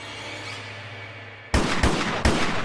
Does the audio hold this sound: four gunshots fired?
yes